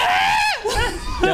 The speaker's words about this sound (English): I would like to scream. Go ahead, let me hear it.